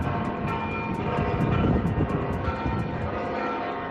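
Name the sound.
cathedral church bells ringing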